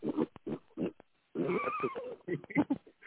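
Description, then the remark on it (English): A miniature pig named Quinn squeals and grunts in the background of a phone call in a series of short bursts, with one longer, higher-pitched squeal in the middle, heard through a narrow, phone-like connection. “Do you hear that squealing in the background? I do, yeah. That's my miniature pig.”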